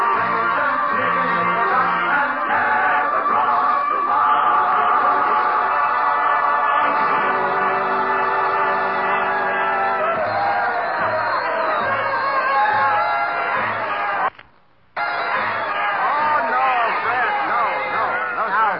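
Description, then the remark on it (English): A dense, steady hubbub of many overlapping voices chattering at once in the Roseland dance hall in America, loud and continuous, broken by a brief drop to near silence shortly before the end. “Probably the most famous dance spot in America.”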